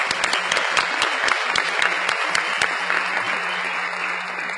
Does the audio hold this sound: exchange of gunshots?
no